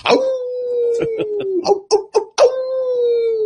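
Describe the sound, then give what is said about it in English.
A person mimics a wolf howl: a long, steady wavering tone sliding slowly downward, broken by a few short yelps and breaths, then a second drawn-out howl. “We're just howling at the moon here.”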